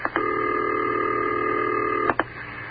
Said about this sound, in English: And we're ringing the Chad mission to the United Nations to find out what their language is. Here we go. It's ringing, he said with a question.